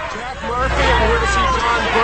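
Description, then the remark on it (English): A crowd of protesters clamors around a Ford SUV as it drives up to a prison gate, a dense, steady wall of overlapping shouting voices that swells slightly louder after the first moment and stays busy throughout. “The protesters gather as a Ford SUV drives up to the gate.”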